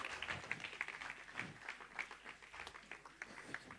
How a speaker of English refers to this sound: Another clap offering for Paul.